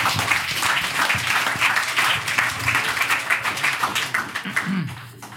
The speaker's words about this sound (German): Alles falsch. Ja, Applaus. Alle Fragen falsch.